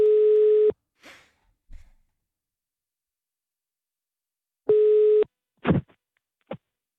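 A telephone ringback tone plays twice while placing a call during a radio broadcast, each steady buzzing ring lasting under a second with a long silent pause between, followed by a few soft clicks and thumps on the line.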